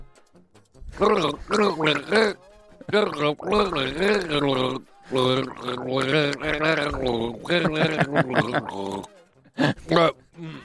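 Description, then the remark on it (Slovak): A voice sings a melody through a mouthful of water for a song-guessing game, the notes bubbling and gurgling in a wavering, gargled tone across several phrases with short pauses between them. “No napil som sa vody. No tak si... Ja... Tak neprehltaj, iba daj do úst a spievaj.”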